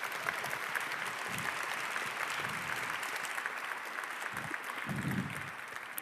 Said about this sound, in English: Give her a nice applause. Thanks.